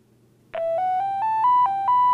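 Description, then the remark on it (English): A phone ringtone preview from the ringtone menu of an Oasis phone plays alone: a bright, buzzy electronic melody of short notes stepping gradually upward in pitch at a quick, even pace, starting after a brief silence. “I'll push yes to go into this menu, and it will preview some ringtones for us.”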